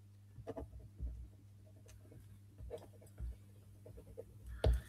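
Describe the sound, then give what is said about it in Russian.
Faint, intermittent scratching and light tapping of a pen writing a note on paper in short bursts, over a steady low electrical hum, with a slightly louder scrape near the end. “я вот напишу даже себе, сделать такую Илон Маск сериал. И ручка не пишет, а вот это пишет.”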